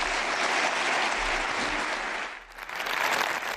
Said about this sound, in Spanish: La ovación para Marcelo.